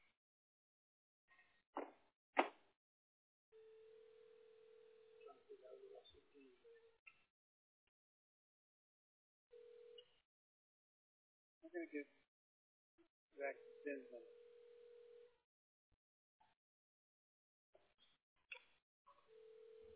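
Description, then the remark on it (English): Short electronic telephone beeps and steady tones sound in bursts as a phone call to a web designer is dialed and rings, with sharp clicks between them and no one speaking. “We're going to get our web designer on the phone for a second.”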